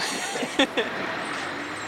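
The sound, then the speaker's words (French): A refrigerated transport truck's steady, broad engine and machinery drone runs throughout, with two short, sharper bursts, like brief air-brake hisses, close together early on, during a truck inspection. “Transport frigorifique.”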